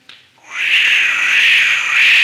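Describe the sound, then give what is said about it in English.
Someone imitates a howling wind with their mouth as a live sound effect for a horror story set on a windy night: a steady, breathy whistle starting after a short breath, then holding and gently wavering in pitch and loudness for about two seconds. “We have no sounds here or anything, and I'm going to try to do the sounds myself. Now, it starts off, as all great horror movies do, it's a windy night.”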